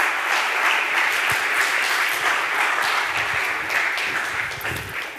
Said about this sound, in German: Heißt ihn doch mal mit einem herzlichen und warmen Lukas-Applaus ganz herzlich bei uns willkommen.